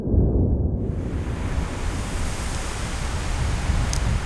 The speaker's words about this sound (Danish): Isen ved polerne er massiv, havet står lavt, strandene er brede, og vestenvinden river i det blotlagte landskab. Sandet fyrer.